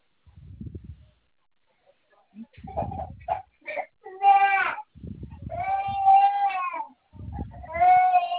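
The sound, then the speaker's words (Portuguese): A baby cries in a few rising, drawn-out wails, each longer than the last, mixed with short choppy sobs and low rumbling bursts between them. “Tá chorando?”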